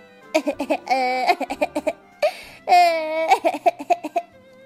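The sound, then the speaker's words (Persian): A young child cries in two fits: quick, rhythmic sobbing gasps that break into a long, loud wail each time, alone with no talking. “جیکو خیلی ناراحت و مایوس شده بود و شروع به گریه کرد”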